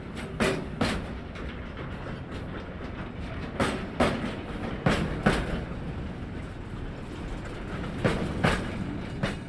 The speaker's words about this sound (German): Und langsam rollt der Zugskonvoi Richtung Norden an, auf einem der 30 Hupak-Gleise.